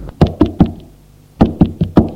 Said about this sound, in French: Il entend du bruit derrière une porte. Frappe.